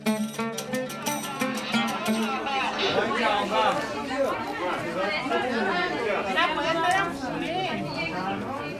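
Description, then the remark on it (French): A dense crowd of dozens of people talking and calling over one another in a continuous, loud hubbub, with a few raised shouts rising above the steady chatter, as they jostle at the counter of a currency exchange office in central Tehran, Iran, trying to get dollars. “C'est une cohue indescriptible. La foule prend d'assaut un bureau de change dans le centre-ville de Téhéran.”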